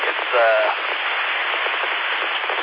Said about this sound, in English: It's dumping rain down here. So if I'm sitting here, this is rain hit the old tin roof and just shoot back.